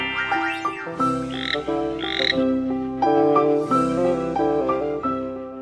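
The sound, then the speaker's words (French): A toad croaks loudly and steadily for several seconds, its rough, throaty calls layered over sustained tonal sounds, with no talking. “Attention, papa, je vais te transformer en crapaud avec ma baguette magique.”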